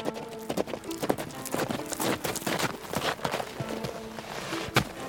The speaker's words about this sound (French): Un bruit de sabots se fait entendre alors que Mulan arrive au galop sur son cheval, Can.